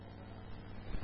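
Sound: car passing by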